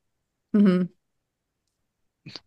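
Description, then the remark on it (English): A screen reader voice briefly announces a button in a short, clipped synthetic phrase, followed after a pause by a quick, quieter burst of sound. “Yeah, screen reader speaks it out.”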